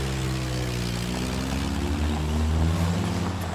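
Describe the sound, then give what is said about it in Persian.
A car engine drones low and steady as the vehicle drives off, fairly loud throughout, swelling slightly toward the end, with no voices. “ماشین میره.”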